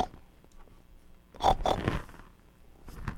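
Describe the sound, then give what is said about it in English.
A pig oinks and snorts in a quick cluster of rough, nasal grunts midway through, moderately loud against a quiet background, with no talking. “And a pig! Look,”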